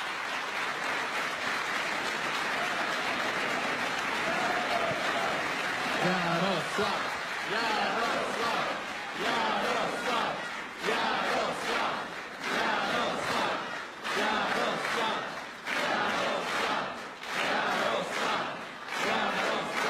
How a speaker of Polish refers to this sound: Przywitajmy bardzo serdecznie pana premiera, prezesa Jarosława Kaczyńskiego. Przywitajmy również pana premiera Mateusza Morawieckiego. Proszę o gorące brawa.